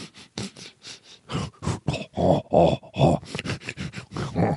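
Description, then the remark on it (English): A person imitates a bear sniffing around outside a tent at a campsite, making a run of breathy sniffs and low rhythmic grunts in quick bursts, growing louder toward the middle before easing off. “By the way, I've been in a tent when a bear is sniffing around.”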